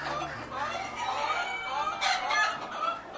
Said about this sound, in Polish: To są kochiny, kochiny akurat miniaturowe. To jest kogut biały, lokowany. Bardzo ładne. To są bardzo łagodne kury.